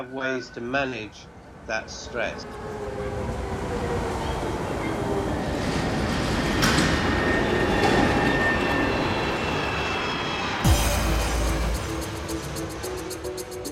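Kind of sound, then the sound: vehicle, subway train running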